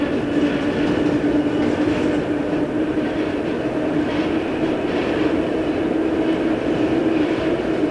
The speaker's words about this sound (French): Le métro s'approche de la station. Il se lève et attend.